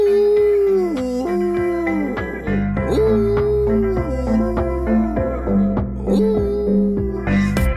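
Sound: dog howling and whimpering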